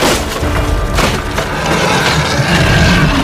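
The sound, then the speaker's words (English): Wood splinters and cracks as a classroom door is smashed in by heavy chopping blows of a massive axe, loud, with a dense crunch of breaking timber and a booming impact under it. “It let out a bone-chilling growl and swung its massive axe, smashing through the classroom door.”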